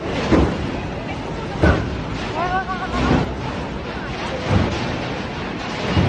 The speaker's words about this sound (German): Auf einem Internetvideo aus Bangkok ist zu sehen und zu hören, wie das Beben mit einer Stärke von 7,9 die stehenden Waggons einer U-Bahn immer wieder gegen den Bahnsteig donnern lässt.